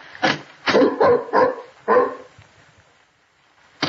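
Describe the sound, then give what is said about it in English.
A dog named Tiberius barks five times in quick, uneven succession, loud and rough-edged, then falls quiet before one more short bark at the very end. “You hold Tiberius's collar while I open the door. Here, boy. We don't want him to fly at anybody.”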